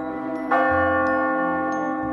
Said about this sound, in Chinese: 而奇怪的是，当他们在森林里听到的钟声，却又像是从城市里头所传来的。